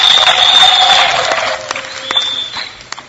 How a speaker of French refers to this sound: Merci également de l'applaudir très fort pour l'encourager.